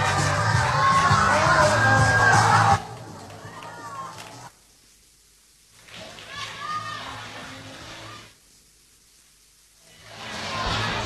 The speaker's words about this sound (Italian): Ora gli applausi dei tanti presenti, un grande live qua e sulle frequenze di Radio Prima Rete.